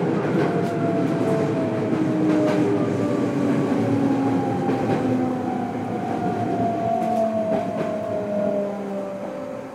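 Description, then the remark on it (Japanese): Steady rumble of a moving train heard from inside the car as it approaches Hibarigaoka-Hanayashiki station, where the train terminates, with low-frequency drone, faint rail clatter and gliding motor whine, continuous and loud throughout, no talking. “この電車は次までです。”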